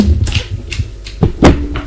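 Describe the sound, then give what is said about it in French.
The double door of a second-floor apartment being opened: a few clicks and knocks of the handle and latch, then a couple of firmer thuds over a low steady hum. “Une fois arrivée au deuxième étage, elle ouvre la double porte de son appartement.”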